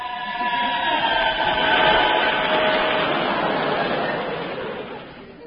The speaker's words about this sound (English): That was a train! Yes, it's a busy time just now, you know.